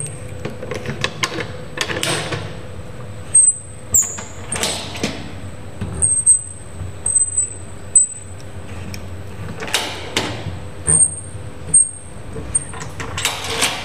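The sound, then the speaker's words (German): Four large, thick bolts being unscrewed from the big inspection hatch of a brewery's combined mash tun and brew kettle: irregular metallic clanks, scrapes and ratcheting bursts over a low hum, with a thin high whine running steadily underneath. No one speaks. “Und da machst du jetzt am großen Kuckloch, da sind so vier große, dicke Schrauben. Die machen wir jetzt mal auf hier.”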